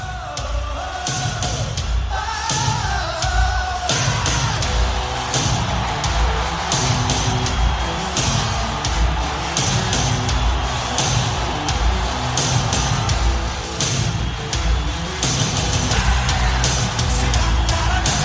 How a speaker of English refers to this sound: I didn't know much about them, but I did go and look up some of their songs, and here I'll play their regular song. Yeah, I'll play the regular song.